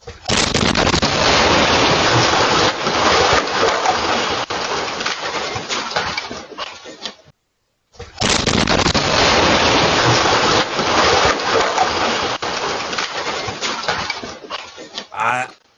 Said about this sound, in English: But I want you to watch the video from the Ring doorbell. This was not a small explosion. Take a look at this.